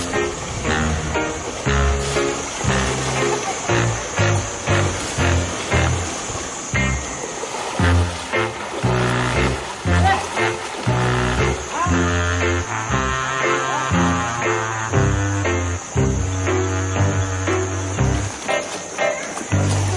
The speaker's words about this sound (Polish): Ja nie wiem, jak kierować słoniem w rzece. Ale słoń się ucieszył, że wszedł do wody. Zaczął się od razu oblewać i mnie przy okazji.